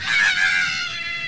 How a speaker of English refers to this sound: Suddenly, with one final piercing scream